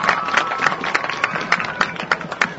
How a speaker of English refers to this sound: Let's give them a huge round of applause.